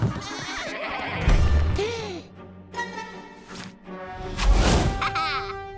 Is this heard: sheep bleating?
yes